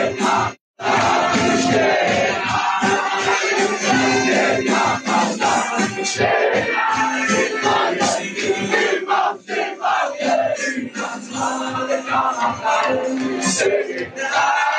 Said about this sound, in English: Remember, Al-Aqsa Mosque is the third most holy site in the world for Muslims. And they set a fire on the mosque and all of these lunatic Jews, of which it's not a small number, they're all cheering. Yep, here it is.